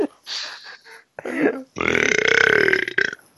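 A loud, drawn-out burp rumbles for over a second, preceded by a couple of shorter throaty, gurgling noises and breathy sounds.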